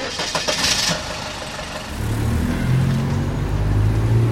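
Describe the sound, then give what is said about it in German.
A few sharp clicks and rattles, then a car engine starts up at about two seconds and settles into a steady low rumble, recorded from inside the car as a man drives home around 4 pm. No one speaks. “Die Zeit im Auto nutzt er, um sich zu entspannen.”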